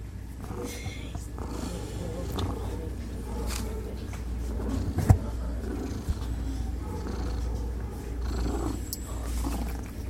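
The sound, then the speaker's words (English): Miss Antoinette, a black cat up for adoption at the West Valley Animal Shelter, purrs steadily for the whole stretch, a deep continuous rumble, with occasional brief scratchy rustles and clicks on top as she scratches. “I have that interview here with me, starting with Miss Antoinette, the beautiful black cat up for adoption there, purring and scratching.”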